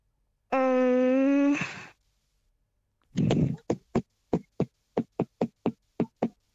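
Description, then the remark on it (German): Kitchen utensils clatter out a rhythm, about ten sharp knocks in an uneven beat pattern, after a longer sustained droning, moan-like tone at the start. “Machst du das auch manchmal so in der Küche, wenn du was rührst oder so, dass du einen Rhythmus klepperst?”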